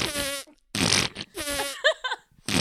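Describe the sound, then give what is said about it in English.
Several loud, buzzy farts in quick succession, with raspy tonal blasts broken by short pauses and a few sputtering bursts toward the end. “Naked on her bed, farting.”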